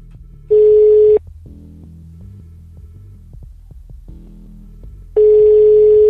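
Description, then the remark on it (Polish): A telephone line tone sounds twice, each a steady loud beep lasting under a second, about four seconds apart, with a low throbbing hum filling the gap and no voices, as the Radio Zielona Góra studio dials a phone guest for the Sport Cafe programme. “Dzwonimy, szanowni państwo. Już wykręcam.”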